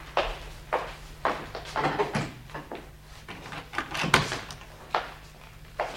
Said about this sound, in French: Permettez que je referme toutes ces serrures.